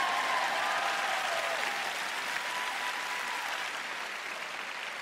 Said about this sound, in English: But you better clap louder than that.